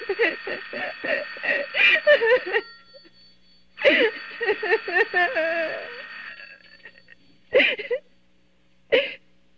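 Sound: telephone ringing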